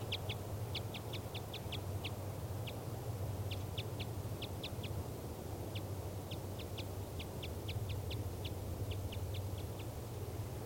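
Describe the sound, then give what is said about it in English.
A female bird calls repeatedly from a spruce tree while off the nest, giving rapid series of short, high-pitched notes in uneven bursts over a steady low rumbling background, with no talking. “Recording that female still off the nest in that spruce tree after 2 minutes, and she's still calling.”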